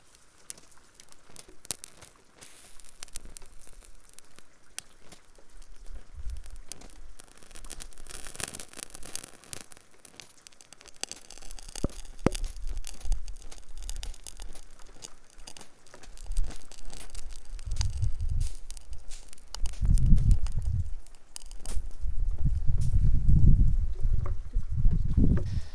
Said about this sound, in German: Den Plastikbecher stelle ich jetzt auf den Boden und zünde ihn mit dem Feuerzeug an. Und wenn wir Glück haben, dann erleben wir jetzt gleich den tollsten Raketenstart der Welt.